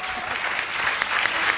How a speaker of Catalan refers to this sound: Un aplaudiment, sisplau.